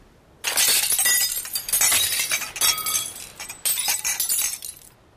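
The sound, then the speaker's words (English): Glass bottles from a beach clatter and clink into a glass recycling bin in a loud, continuous tumble with a brief pause before a second burst of rattling, shattering glass. No one speaks. “This bin is for recycling glass.”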